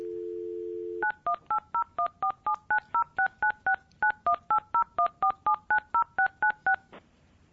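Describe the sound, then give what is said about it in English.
A steady phone dial tone for about a second, then a long run of clear touch-tone keypad beeps, roughly two dozen in quick, even succession, as a phone call is placed during a board meeting, with no one speaking. “We ready? Phone call.”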